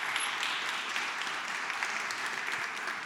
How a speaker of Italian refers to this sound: Fatevi un applauso per essere qua di venerdì sera a sentire cose sulla Cina.